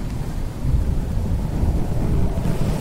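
A sudden September night storm in Cleveland: a blustery roar of wind with deep rumbling thunder, loud and steady throughout, low booms rolling beneath gusty noise with no voices.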